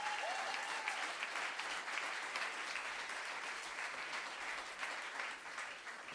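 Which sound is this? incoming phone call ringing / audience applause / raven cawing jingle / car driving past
audience applause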